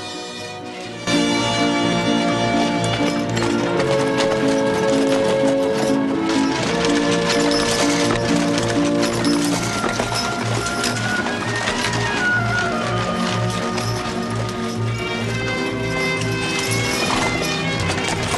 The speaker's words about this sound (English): The horses head up a dusty track towards a guarded gateway and head through it.